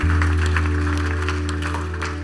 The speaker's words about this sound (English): Come on. Let's just give God a clap. You're going to do it, church. Do it properly. Do it properly.